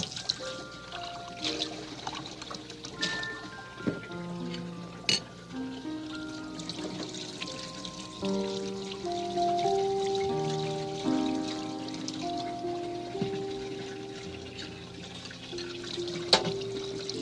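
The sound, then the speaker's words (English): Water pours steadily into a glass for several seconds, the pitch rising as it fills, with gurgles and small splashes. “Empty glass, full glass.”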